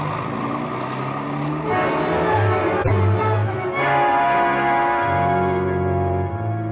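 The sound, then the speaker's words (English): A taxi cab's engine drones steadily, its pitch rising and falling as it speeds through city traffic, ignoring red lights, on the way to the Wrigley Building from Michigan Avenue, with a couple of sharp clicks partway through and no one talking. “The red and the traffic lights didn't mean a thing, but it still took us 3 minutes to get to the Wrigley Building.”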